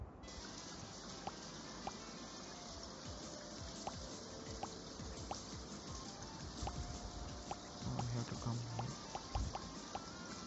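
Water drops drip and fall in a video game level in a quick, irregular patter of small taps over a continuous wet trickling wash, quiet, with a slightly louder burst of splashing near the end.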